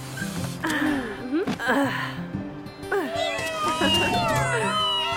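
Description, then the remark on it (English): Several little kittens mew repeatedly in high, wavering cries that overlap and tumble over one another, fairly loud, continuing without pause for the whole stretch. “They're T.T.'s adorable little kittens. Aren't they cute?”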